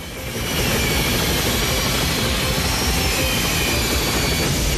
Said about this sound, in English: As Krieger struggles to rebalance the craft, Ethan leaps from the train to the helicopter's other runner.